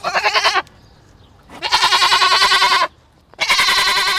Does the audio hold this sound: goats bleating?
yes